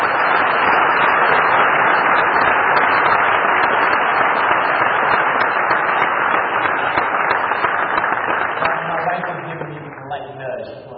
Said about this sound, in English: Can you give them all one more big round of applause?